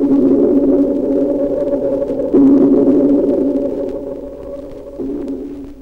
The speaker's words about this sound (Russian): Сейчас эхо напоминает звук органа или раскаты далекого грома. Локатор настолько совершенен, что дельфин без труда различает виды рыб, рельеф своих коллег.